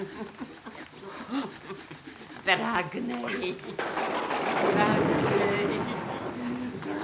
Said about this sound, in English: What on earth's she doing? Well, it sounds as if she's sawing through something.